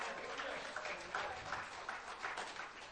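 An audience gives the Lord a hand clap together in a dense, steady patter of many hands, sustained evenly throughout at a fairly soft level, with no voices rising above it.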